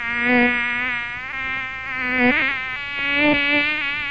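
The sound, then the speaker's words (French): A continuous mosquito buzz drones for several seconds, its pitch wavering and swooping as if the insect circles; no voices are heard. “Et donc, parfois maintenant, quand on se fait piquer par un moustique, on peut avoir une forte fièvre.”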